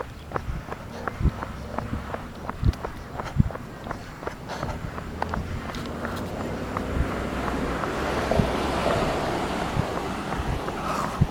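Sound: running footsteps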